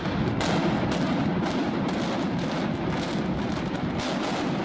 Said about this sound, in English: Shortly after Texas A&M System Chancellor John Sharp finished the countdown came the explosions from 735 pounds of dynamite set off by more than 1,300 blasting caps.